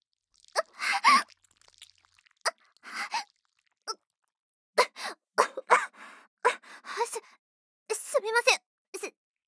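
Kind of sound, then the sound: human body sound, coughing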